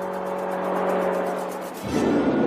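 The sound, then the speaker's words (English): A police car approaches with a steady engine drone and tire noise, growing fuller before the sound shifts abruptly near the end. No siren stands out. “A police car approaches from behind the alien.”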